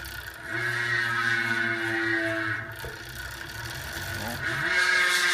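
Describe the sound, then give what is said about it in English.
A bicycle hub freewheel buzzes loudly and continuously, a dense, angry whirring drone that holds steady, dips briefly, then swells and shifts pitch toward the end. “let's listen to the hubs”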